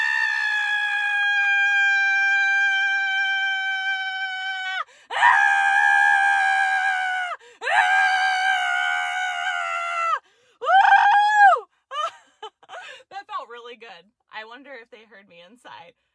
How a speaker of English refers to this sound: So when in doubt, scream it out. Okay. So 1, 2, 3. Ah!